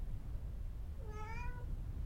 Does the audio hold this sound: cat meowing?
yes